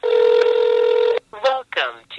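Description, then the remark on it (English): A single steady electronic telephone tone holds for about a second, loud, then cuts off and is followed by short bursts of an indistinct voice, as a phone number is called to pay for parking through a pay-by-phone system in Washington, D.C. “Here's one of them, a pay-by-phone system.”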